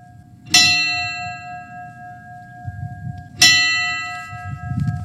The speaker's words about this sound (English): After a reading of the names of the victims of a racist gunman and a moment of silence, there was a ringing of bells.